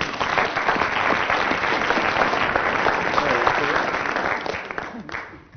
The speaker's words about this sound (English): Oh, incidentally, Willie has now done the Rubik's Cube. Yes. Round of applause for Willie.